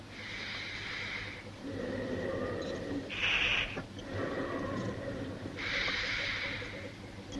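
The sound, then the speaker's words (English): Operating theatre bellows inflating and deflating with a patient's breathing during an operation, in a slow, steady rhythm: three loud, hissing wheezes alternate with softer breathy exhalations over a low constant hum. “In the operating theatre, bellows inflate and deflate rhythmically with Peter's breathing as the operation continues.”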